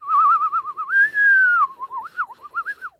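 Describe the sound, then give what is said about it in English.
A person whistles a wavering, warbling tone that rises into a long sustained note, then dips and wobbles again, imitating a Bird Dogs Nerf-like rubber whistling football in flight; clear, with no talking. “You'll get a Nerf-like rubber football that whistles when you throw it through the fucking air.”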